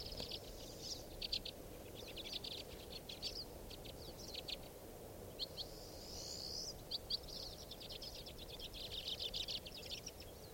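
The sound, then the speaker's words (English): White-winged crossbill calls: quick runs of dry, high-pitched chips and trills in irregular clusters, fairly faint over a steady low rushing background. No one speaks. “is a white wing.”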